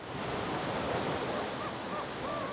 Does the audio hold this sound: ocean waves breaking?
yes